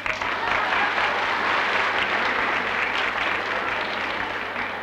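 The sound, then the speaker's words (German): Sustained audience applause for the stage character Kammersänger Plemplem, a dense, steady wash of many hands clapping at an even loudness for about five seconds, with no voices standing out above it. “Bitte nochmal Applaus, Avanti.”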